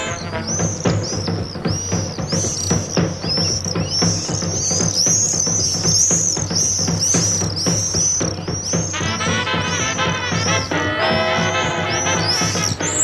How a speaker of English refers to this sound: Just love the sound of that particular bird. It's a summer visitor here to Ireland, along with a swallow, but it's not a swallow. If you've ever been to Spain, you can't help but hear them everywhere you go.